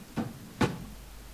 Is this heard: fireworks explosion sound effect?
no